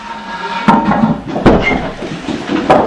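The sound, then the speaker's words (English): A door is swung shut at the start of a class as people take their seats, giving three solid wooden thuds and clunks spaced over a few seconds against a steady murmur of room noise. “What we're talking about tonight, if you can take your seats and we'll get started, close the door for me if you don't mind, is, and this door is important, this is very important, you don't tend to close this door, that's critical.”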